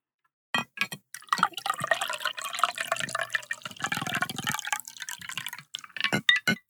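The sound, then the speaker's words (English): A cocktail is poured into a glass, a steady splashing stream with bright liquid trickles, followed by scattered drips at the end. Fairly loud, with no talking. “But today, for myself, I'm going to go ahead and pour my drink.”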